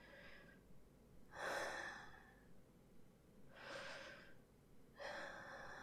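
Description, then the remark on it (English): Heavy, audible breathing, with four or so long, airy breaths in a slow, labored rhythm and short pauses between them. No one speaks. “Yeah, I guess I am breathing a little heavy.”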